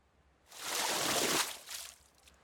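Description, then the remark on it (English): A splash of water thrown onto a face: a broad, hissing rush lasting about a second, followed by a softer, shorter spatter as it trails off. No one speaks. “Maybe we need to splash some water on your face.”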